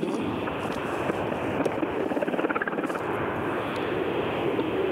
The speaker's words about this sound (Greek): τα άλλα ελικόπτερα έχουν απογειωθεί. Ναι. Για λόγους ασφαλείας και περιμένουν να απογειωθεί και το προεδρικό ελικόπτερο.